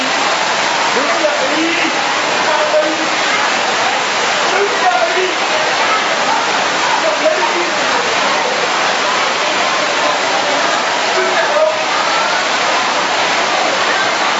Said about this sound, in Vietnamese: Đứng dậy cầm ghế vào trong này ngồi, mưa ướt hết bây giờ. Vào lẹ lên.